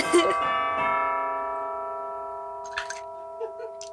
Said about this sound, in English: Oh, Lord have mercy. I just started. Every time. Oh, my God. It's so... I know. Fucking church bells don't stop ringing.